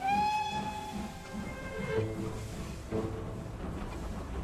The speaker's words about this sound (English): this train feels like a time machine, doesn't it? The wooden panels, the plush seats, and the rhythmic sway. It's beautiful, isn't it? I love these old steam trains.